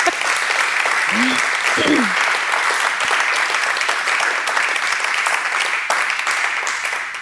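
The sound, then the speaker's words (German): An audience applauds a speaker after a lecture at the Vorarlberger Kinderdorf on a hot day. The clapping is a steady, dense wash that holds even and loud before tapering slightly at the end, with a few brief voices calling out near the start. “Ich würde sagen, Sie haben sich einen großen Applaus und ein herzliches Danke verdient.”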